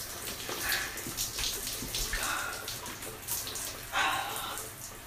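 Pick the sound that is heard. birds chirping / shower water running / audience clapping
shower water running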